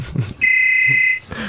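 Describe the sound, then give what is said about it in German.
A telephone rings once with an incoming call, a steady, high-pitched electronic tone that holds for under a second and then cuts off, with low rumbling noise before and after. “So, Moment, jetzt gehen wir doch mal ans Telefon.”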